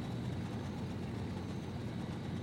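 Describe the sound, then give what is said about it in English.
A low, steady engine drone chugs continuously: a small boat motor puttering along a river in the shadow of the jungle at an even pace, moderately loud, with no voices. “As the boat putters along the river in the shadow of the jungle, Eric sits with Alan.”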